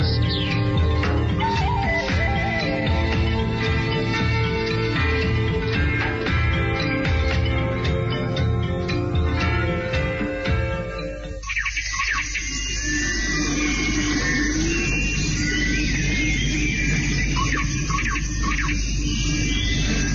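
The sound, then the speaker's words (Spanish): A steady musical passage fills the first half, then gives way to dense jungle ambience with many small birds chirping busily all around, continuous, no voices. “El viaje con esos pajaritos de fondo, entrando en una de esas muchas selvas donde has estado”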